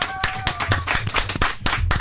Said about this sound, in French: Applaudissements.